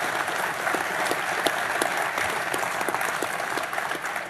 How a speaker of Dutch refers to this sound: Nou, ik zou zeggen applaus even voor haar ook.